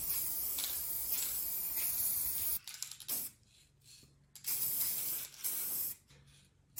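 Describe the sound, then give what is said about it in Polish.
Spray paint hisses from an aerosol can onto a model airplane as the first coat is applied: one long, steady burst of bright hiss, then several shorter spurts separated by brief quiet gaps. No one speaks. “Najpierw jedną warstwę.”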